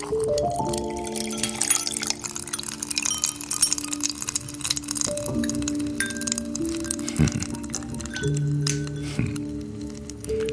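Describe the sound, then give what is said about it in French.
Close-up sounds of liquor being poured over ice in a glass: cubes crack and clink with sharp little snaps, while a steady ringing tone hums underneath. No one speaks. “J'ai monté du whisky, pur malt. Pas le meilleur, mais j'ai encore dans mon congèle des glaçons du glacier, spécial 100 000 ans d'âge.”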